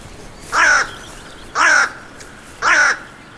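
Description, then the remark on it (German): A raven perched on the branch of a fallen tree beside a path caws three times at a steady, unhurried pace, each call harsh and raspy, clear against a quiet outdoor background with no voices. “Am Wegesrand sitzt ein Rabe auf dem Ast eines umgestürzten Baumes und sieht mich an.”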